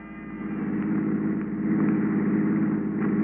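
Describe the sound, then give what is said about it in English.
A hired touring car's engine runs steadily, with a constant low rumble and a slight swell in volume after the first half second. It is continuous, and no one speaks. “The next morning, I packed my bags and hired a touring car.”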